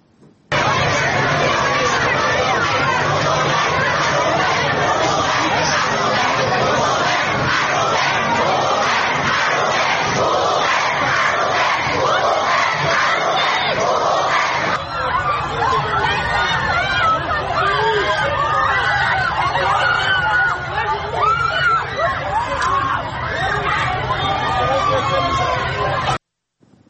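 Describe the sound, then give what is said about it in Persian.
A large crowd of animal rights supporters chants and shouts together at a protest rally in Tehran, loud and continuous for about half a minute, the massed voices turning rougher and more scattered partway through before cutting off abruptly. “اما گروهی از حامیان حیوانات این هفته در تهران دست به تجمع اعتراضی زدن که تصاویری از اون رو با هم میبینیم.”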